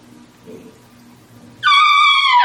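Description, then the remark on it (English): A single shrill whistle blast from a homemade spike whistle, a little aluminum tube cut from half-inch conduit. It starts abruptly after a quiet stretch, holds a loud, steady high pitch with bright overtones, and bends slightly downward at the end. “And my first sergeant said, it's a spike whistle. You blow it. And this is kind of what it sounded like.”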